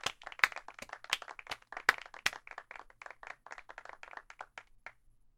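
A burst of applause from a class of students at a girls' school welcoming a new math teacher, many hands clapping in a fast, uneven patter with a few sharper, louder claps standing out, tapering off after about five seconds.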